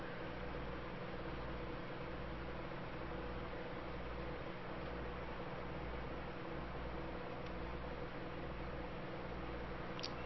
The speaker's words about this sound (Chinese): 现在把你的注意力放在空调的声音上，放松自己的身体。这个声音变得非常的祥和。